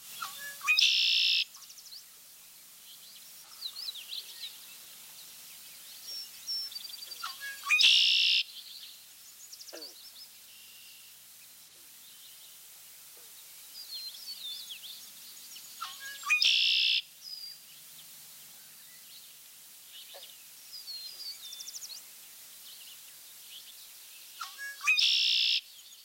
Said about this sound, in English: A widely recognized bird song is that of the red-winged blackbird. The male's most familiar phrase is a distinctive conkeree.